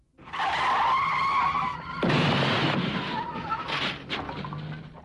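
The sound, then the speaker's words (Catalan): A loud tire squeal wails for over a second, then gives way to a harsh, noisy skid as a secretary's car grinds to a stop, with no voices. “És el cotxe de la senyoreta secretària. Tothom a cobert.”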